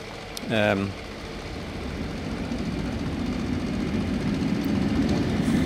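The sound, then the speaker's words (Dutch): A short whistle-like tone sounds, then a train's low, steady rumble builds gradually as it starts to move, growing slightly louder over several seconds. “Nu de trein gaat rijden.”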